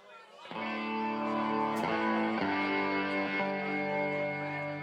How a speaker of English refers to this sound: A little too much. Lordy. Now that's rock and roll. Now we're rocking. More distortion.